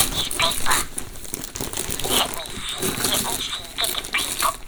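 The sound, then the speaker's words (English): Wrapping paper on a gift box crinkles and rips as it is unwrapped, in a steady run of scratchy, rustling bursts, with louder tearing surges breaking through now and then across the few seconds. “Oh! Yeah, it's a box. It's a box inside this paper.”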